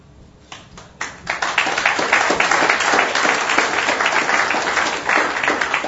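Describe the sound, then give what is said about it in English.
An audience breaks into applause, starting with a few scattered claps and quickly building into steady, dense clapping that holds at a strong level throughout, with no voices over it. “You may want to hold that applause till the end, if you do it at all.”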